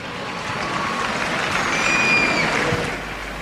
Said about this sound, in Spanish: Y ahí les presentan. Ese fuerte aplauso.